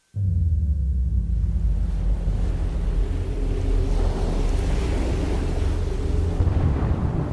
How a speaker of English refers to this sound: I saw a dark and stormy ocean.